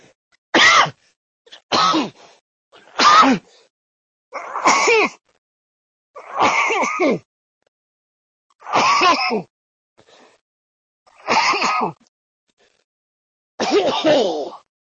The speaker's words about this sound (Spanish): Bueno, pues ya parece que se han pasado los toses, disculpad.